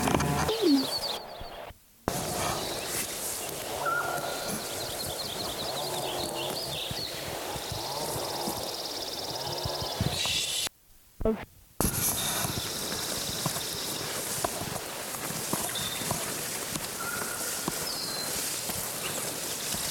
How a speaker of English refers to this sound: This is a second Lincoln sparrow from yesterday singing again.